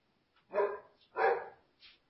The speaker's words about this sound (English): And now my dog's going crazy.